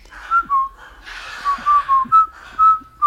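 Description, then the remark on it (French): Soldiers in a film whistle a jaunty marching tune in short, rhythmic phrases, the clear notes carrying over a soft, hissy background, with no talking. “Les soldats sifflent le”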